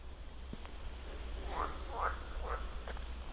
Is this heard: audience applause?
no